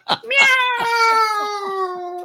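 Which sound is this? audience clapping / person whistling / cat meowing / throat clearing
cat meowing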